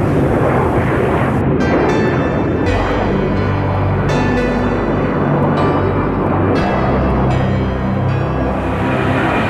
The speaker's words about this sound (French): Et c'est parti pour voler avec l'un des avions les plus incroyables de l'histoire de l'aéronautique, le MiG-25 soviétique en patrouille avec Jean-Loup Chrétien. Et devant moi, c'est direct.